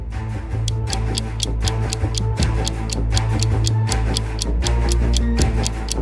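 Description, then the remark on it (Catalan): A clock ticks rapidly in a steady, urgent rhythm, sharp clicks repeating several times per second over a low, sustained musical drone, with no one speaking. “El rellotge deixa d'avançar accelerat després del gol de l'empat de Samuel Eto'o.”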